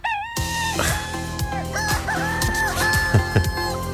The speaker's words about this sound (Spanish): Ah, es el gallo, ¿no, Claudio? Muchacho. Qué buen recuerdo, el gallo Claudio.